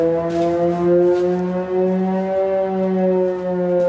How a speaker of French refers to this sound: Dans le village de Liptsi, à 20 km de la frontière avec la Russie, les sirènes d'alerte ne s'arrêtent presque jamais.